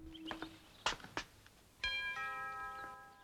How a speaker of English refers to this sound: Francis makes his way up to a front door and rings the bell.